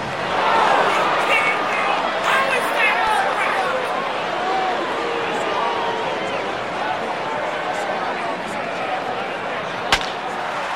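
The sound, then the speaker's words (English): Dense, steady crowd noise at a baseball game, a loud murmur of many voices with some individual shouts rising above it as someone in the crowd reacts to a call, and a single sharp crack near the end. “which takes us to a baseball game, and someone in the crowd reacting to a call.”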